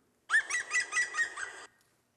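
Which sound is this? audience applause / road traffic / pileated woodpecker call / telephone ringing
pileated woodpecker call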